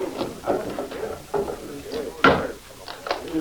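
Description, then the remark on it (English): Wooden clunks and scrapes as a heavy bar is lifted and a door pulled open, a series of short knocking thuds with one louder bang near the end. “Should I unbar the door?”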